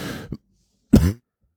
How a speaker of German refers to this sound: Hopsasa, da hat der Husten wieder zugeschlagen. Wir sind heute auch wirklich angeschlagen.